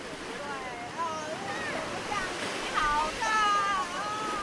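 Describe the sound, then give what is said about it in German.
Ocean waves wash steadily onto a white sand beach in Taiwan in a continuous rushing hiss, while faint, high voices of three small children jumping through the waves call out over the surf now and then. “Drei kleine Kinder hüpfen in T-Shirt und kurzen Hosen durch die Wellen.”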